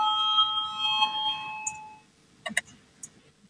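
A sustained electronic parliament bell tone, rung to call a vote on the second proposal of Justice Minister Jānis Bordāns, rings steadily for about two seconds, then cuts off, followed by a few sharp clicks and taps.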